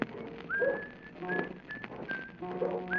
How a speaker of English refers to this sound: Hi there, Canaller! Who's that? With this fog, what you got to whistle about?